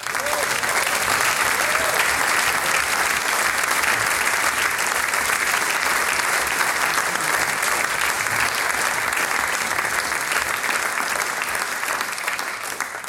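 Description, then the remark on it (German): Sustained, dense applause from a sizable audience for the double quartet of the Steirischer Jägerchor, a male-voice choir, after its performance. It stays steady and loud for the full length with no pauses, the clapping blending into a continuous wash of sound. “Großen Applaus für das Doppelquartett des Steirischen Jägerchores.”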